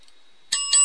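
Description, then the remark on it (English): A bright bicycle bell, played as a sound effect on a broadcast, rings twice in quick succession, sharp metallic dings with a ringing tone that lingers, fairly loud with no voices present. “That is the bell you're going to hear.”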